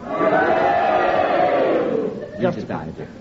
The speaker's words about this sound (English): so therefore, ladies and gentlemen, if you agree with Prunella's challenge, would you cheer? And if you disagree, would you boo? And you all do it together now.